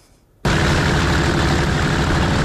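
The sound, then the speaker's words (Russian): After a brief near-silence, the engine of a 45-ton self-propelled artillery unit suddenly roars in, a loud, steady, dense rumble with rough low-end growl and broad hiss that holds without pause to the end, as Ukrainian artillerymen rush it to a firing position in the Pokrovsk direction, raising a wall of dust. “45-тонна артустановка здіймає стіну пилу.”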